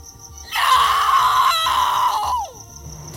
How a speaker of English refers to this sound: but when I felt hands touching me, I screamed and fought them off because I was certain it was the creatures coming to get me.